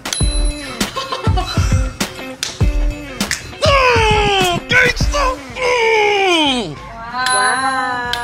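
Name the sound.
scooter bell ringing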